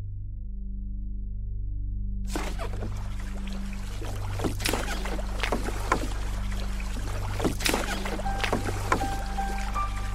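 A small low boat's engine drones steadily while water rushes and slaps against the hull in irregular bursts, with no talking, as the boat moves through the Everglades around midnight to 1 a.m. during alligator season.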